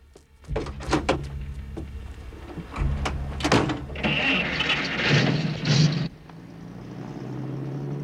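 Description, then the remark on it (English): A truck door thunks shut outside a student house, then the engine cranks and starts with a rising roar before settling into a steady low rumble as the truck drives away. “Dave runs out of the student house to his truck.”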